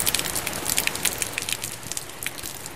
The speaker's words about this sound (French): Il pleut sur Hargeisa.